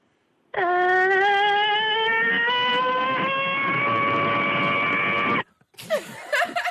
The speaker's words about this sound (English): I've got the annoying alarm, usually on a Sunday morning when everyone's hungover.